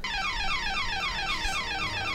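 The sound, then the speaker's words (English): A loud electronic burglar alarm blares continuously, its shrill tone sweeping downward again and again in a rapid, steady cycle, insistent with no voices. “It's like a loud burglar alarm.”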